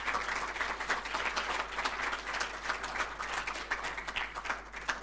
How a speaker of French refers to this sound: On peut applaudir